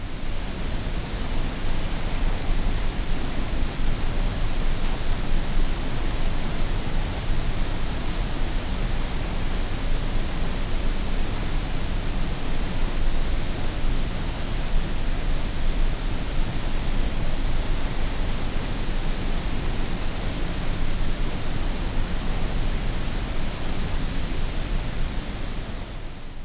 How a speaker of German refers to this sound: Bill Fontana nennt das Geräusch der Niagara-Fälle weißes Rauschen aus der Natur.